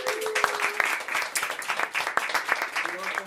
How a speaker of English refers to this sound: Maybe it's a good moment to also give a little warm hand of applause to our phenomenal musicians that are going to play tonight, or already Woo! Have played.